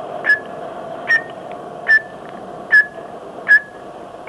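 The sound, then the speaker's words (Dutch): A steady series of six short, high electronic time-signal pips in London, evenly spaced about every eight-tenths of a second, sounding clearly over a faint background hum. “Bij het 6e fluitje.”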